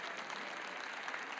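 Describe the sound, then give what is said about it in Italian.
Steady applause from an audience, a dense crackle of many hands clapping at a constant level throughout, with no voices over it. “Non mi aspettavo degli applausi, in effetti.”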